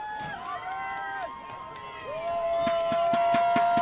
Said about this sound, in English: Again, that Michigan Center crowd making a lot of noise, especially throughout the second half.